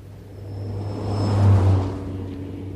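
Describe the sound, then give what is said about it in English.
A big red double-decker bus in London rumbles past, its low engine drone swelling to a peak midway and then fading as it continues on without stopping, over faint street background. “Here comes one of the most iconic symbols of London, a big red double-decker bus.”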